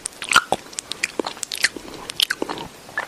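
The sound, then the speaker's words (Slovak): Wet, irregular chewing with sharp lip-smacks and crunchy clicks, a rapid stream of short mouth noises with no talking. “Pravdepodobne teda máte misofóniu, čo je neurologická porucha, pri ktorej špecifické bežné zvuky ako napríklad žúvanie, mláskanie, dýchanie, klopkanie vám jednoducho lezú na nervy.”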